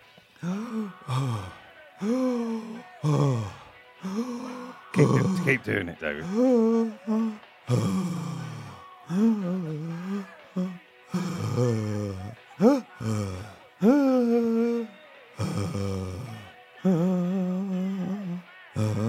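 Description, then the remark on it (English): A person imitates the painful, labored breathing of someone with a cracked rib: a steady run of strained gasps and groaning, sighing exhales, with a brief spoken interjection partway through. “But I found it problematic breathing. And can we listen to what that sounds like?”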